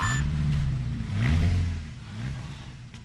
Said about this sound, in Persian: ملاحظه میکنی صدای قشنگی داره. موتور V12 که فقط با صدای راننده روشن میشه.